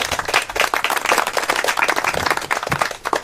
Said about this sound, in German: Applaus.